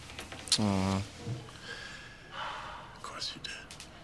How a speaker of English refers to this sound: Sniffing. Were you sniffling? Was that a tear? No. Your eyes burn. I got something in my eye.